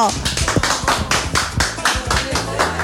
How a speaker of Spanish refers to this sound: ¿Qué tal? Un aplauso.